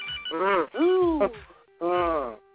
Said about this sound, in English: Ooh. Somebody got a phone ring? Please mute your phone.